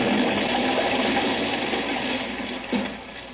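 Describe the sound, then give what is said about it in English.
A steady, hissing roar of a rocket ship jet sound effect invented by Ora for radio's very first science fiction radio show, with a low droning hum underneath and a brief swell near the end before it eases off slightly. “Radio's very first science fiction radio show took off with jets that Ora invented.”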